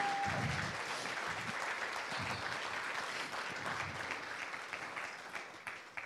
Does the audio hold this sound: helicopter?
no